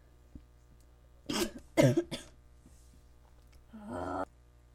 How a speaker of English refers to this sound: Okay, as I had a coughing moment there for a second, sorry about that.